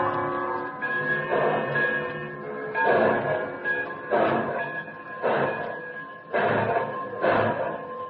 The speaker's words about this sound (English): The last thing I see as the train picks up momentum and speeds out of the station is Comrade Kova standing on the platform and smiling goodbye.